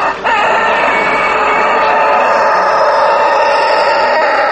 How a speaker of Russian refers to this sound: Петухи ценятся не только за своевременный крик, но и за голос.